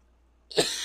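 A single sharp cough bursts out after a brief quiet moment, harsh and breathy, with no talking around it.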